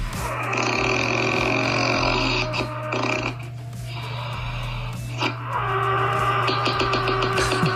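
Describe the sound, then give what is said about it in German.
Heavy, rumbling snoring of a sleeping person in Brandenburg, Germany, with a deep mechanical growl like an idling tractor, loud, breaths rasping in and out in a steady rhythm with no talking. “Klingt wie ein Trecker.”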